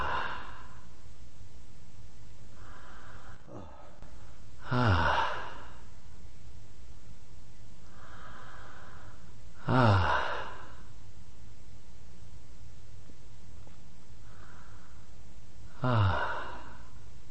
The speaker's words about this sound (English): While the breathing is still way too slow, still at about 6 breaths per minute, we can hear from his sound that he rapidly quiets down and becomes peaceful again.